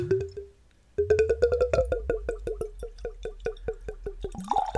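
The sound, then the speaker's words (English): Liquor glugs out of a bottle into a glass in a steady run of quick, rhythmic gurgles, its hollow tone rising slightly as the pour continues, with no talking. “I might buy another bottle of that just to hear it pour from the beginning again.”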